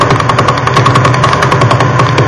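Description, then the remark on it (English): Sonified radio pulses from a pulsar rotating 11 times a second (pulse period 89 milliseconds) form a loud, steady train of rapid beats, blending into a whirring, helicopter-like throb; the pulses are modulated and sometimes one is missing. No voices. “This one rotates 11 times a second, or a pulse period of 89 milliseconds.”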